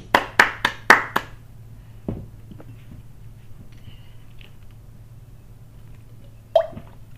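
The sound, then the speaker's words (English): A brief burst of about five sharp hand claps from a small audience, then a low room hum with scattered faint taps and one last clap near the end. “Yay, claps.”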